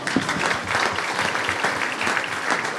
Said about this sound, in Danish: Det skal sgu lige have en hånd. Kom, vi klapper, Pelle.